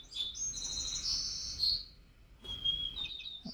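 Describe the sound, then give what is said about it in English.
A white-crowned sparrow sings two clear phrases of high whistled notes that slide into buzzy, trilled segments, separated by a brief pause, with no voices present. “That was a white-crowned sparrow.”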